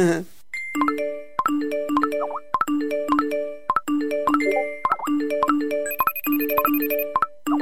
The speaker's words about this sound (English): One colleague even told me about downloading a scheduling app to help her plan her day. However, after being continuously bugged by notifications, well, you know what happened there.